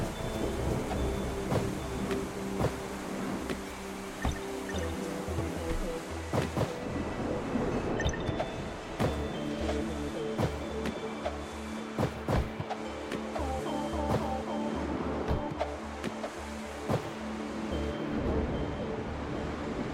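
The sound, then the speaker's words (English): Steady, heavy rain pours down in a dense, continuous hiss of patters and splashes, with a low rumbling undertone and no voices. “Rain. Great.”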